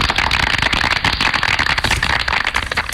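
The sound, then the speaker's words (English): A crowd applauds with dense, steady clapping that stays fairly loud and even for about three seconds, a continuous crackling patter with no voices heard. “Please clap.”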